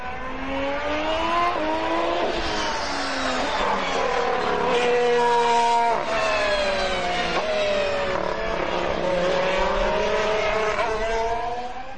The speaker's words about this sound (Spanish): Y vamos a empezar con el petardeo de motores y de coches. Petardeo clásico del que está siendo de momento decepción en la pretemporada McLaren Honda.